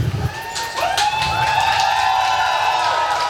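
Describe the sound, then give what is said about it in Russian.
A live concert crowd cheers and whoops loudly between songs, with scattered clapping mixed into the steady roar of many voices throughout. “Но вы не спугните, я ж просил. Можно смеяться, хлопать не надо.”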